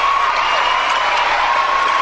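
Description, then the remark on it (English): A large Hollywood audience cheers and whoops steadily, a dense, loud wash of crowd noise with no pauses and no single voice standing out. “And there you hear, of course, Hollywood demonstrating its utter lack, its utter bankruptcy on the moral level, cheering and so on and so forth.”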